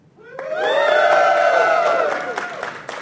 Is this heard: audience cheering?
yes